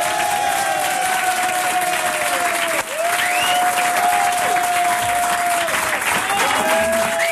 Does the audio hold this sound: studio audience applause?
yes